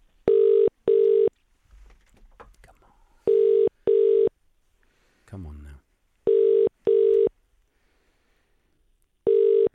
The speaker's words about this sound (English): Oh, it's ringing. It's ringing. It's ringing. It's ringing.